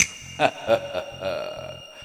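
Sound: finger snapping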